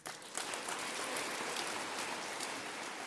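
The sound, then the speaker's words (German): Loud applause from a crowd after a speech given in Mölln in 2017, a dense, steady wash of clapping that starts abruptly and holds at an even level for a few seconds, with no voices. “Lauter Applaus für die Rede”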